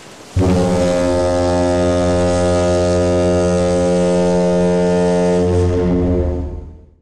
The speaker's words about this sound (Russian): Встревоженные жители зажгли фонари и собрались на берегу моря. И вдруг в темноте раздался гудок.